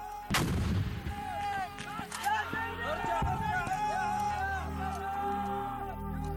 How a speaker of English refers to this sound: But suddenly, the explosion of a grenade tore open his flank.